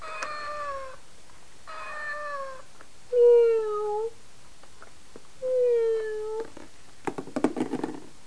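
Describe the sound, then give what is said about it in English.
A cat meows four times in a row: drawn-out, falling calls with brief pauses between them, the last two louder. A short burst of clattering noise follows. “Meow.”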